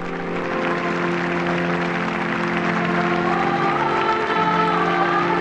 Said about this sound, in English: Throughout Rome, millions of people clapped and cheered at what may have been the largest funeral gathering in modern times.